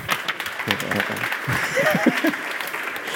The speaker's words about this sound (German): Ihr dürft klatschen.